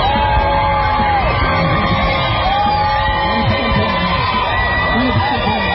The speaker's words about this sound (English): The crowd cheers as President Trump leaves the hospital briefly, waving from an SUV.